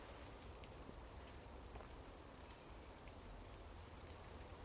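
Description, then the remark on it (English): Soft, steady rain falls straight down on a mild September day, a gentle even patter of drops on surfaces with no gusts or breaks, quiet with no voices. “And it's that lovely, therapeutic almost gentle straight down rain, vertical rain, wind behind it.”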